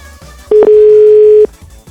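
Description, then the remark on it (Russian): A telephone dial tone as someone places a call: one loud, steady mid-pitched hum lasting about a second, with a brief click near its start and another as it cuts off, surrounded by faint background noise. “Позвоните нам. Ну вот я это делаю.”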